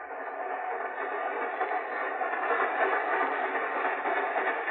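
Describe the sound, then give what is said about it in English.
A steady, continuous rumble of a train rolling along the rails, filling the whole stretch at an even level with faint rattling texture and no voices. “But you do know I was carried on this train.”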